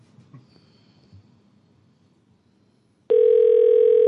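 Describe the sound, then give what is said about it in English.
After a few seconds of quiet low rumble, a telephone abruptly starts ringing with a loud, steady electronic tone that continues unbroken until the end. “Oh, there's my phone.”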